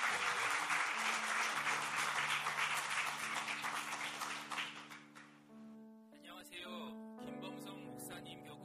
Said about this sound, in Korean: 앞에 나오면 또 떨리니까 박수로 한번 경례해 주시기 바랍니다.